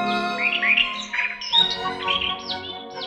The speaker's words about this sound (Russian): Слышите? Это скворец поет. Прилетел из дальних мест, из Африки, перезимовал в южных теплых краях и обратно в родной лес. Сидят на ветке сойка и дрозд, скворца слушают.